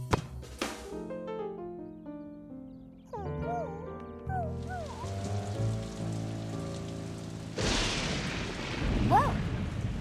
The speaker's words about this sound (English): Oh, it's just thunder. What is it, Clifford? Are you scared? Well, come here, little guy. Don't worry. That's just thunder, Clifford. It happens a lot when it rains.